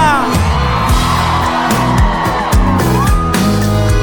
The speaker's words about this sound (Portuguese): Eu quero ouvir o grito da mulherada solteira aqui em Goiânia.